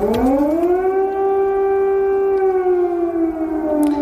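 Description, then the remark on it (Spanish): An air raid siren wails in Kyiv, Ukraine, in the early morning after Russia's attack began, in a long, steady tone that rises at the start and holds loud throughout, with a faint rush of background noise and no voices. “Son las sirenas antiaéreas.”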